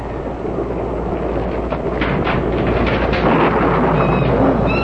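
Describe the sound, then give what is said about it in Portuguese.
A heavy thunderstorm rages with deep, rolling thunder rumbling low and continuous, a steady wash of rain noise filling the background and swelling louder toward the end. “Não fica aí do lado de fora com esse temporal, tá?”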